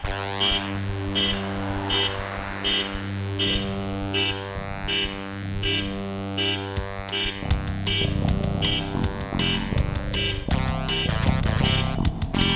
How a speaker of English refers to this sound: car alarm.